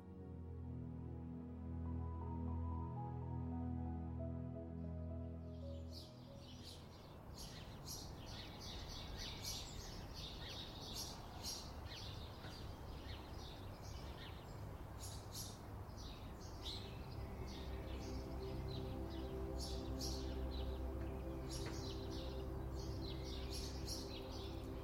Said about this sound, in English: It's early morning on a pleasant spring day in Istanbul. Sparrows are singing and the city is in full bloom.